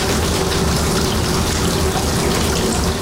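Icy water runs steadily from a hose used as a washbasin in a makeshift refugee camp, a continuous, fairly loud gushing stream that stays even from start to finish, with no voices.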